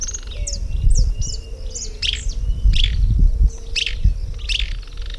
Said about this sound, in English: Yeah, the bird was just saying that it is Eustarthmus. It has a rusty crown.